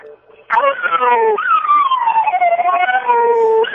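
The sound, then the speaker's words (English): A dog named Murphy howls as if singing, in one long, loud, wavering note, its pitch rising then slowly sliding down and lifting again, like a drawn-out song, after a brief quiet start. “What's weirder than trying to make your dog it's sing?”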